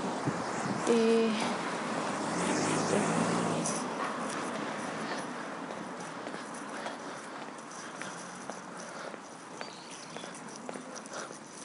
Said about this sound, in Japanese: あ、やっぱりこっちへ来ると車がいっぱいだな。